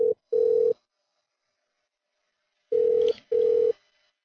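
A telephone call to the Byblos Restaurant and Bar rings twice in a double-burst pattern, two short buzzing tones, then a long pause, then two more, heard clearly over the line with no one talking, before the answering machine picks up.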